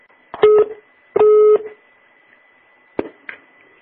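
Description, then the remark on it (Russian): A telephone busy tone after a hang-up: two loud, steady electronic beeps with a short gap between them, then silence broken by a couple of sharp handset clicks. No one speaks. “Алло, вы что, охуели трубку бросать?”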